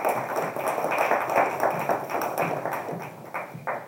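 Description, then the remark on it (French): An audience applauds steadily, a dense patter of many hands clapping at fairly even loudness for about four seconds, with no voices standing out. “Dans l'espace de très peu de temps, c'est d'apporter de façon exemplaire dans la maîtrise de ce budget et je crois qu'on peut l'applaudir. Bravo.”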